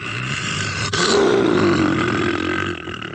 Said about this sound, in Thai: เสือเป็นตัวที่สี่คำรามร้องเรียกพระอาทิตย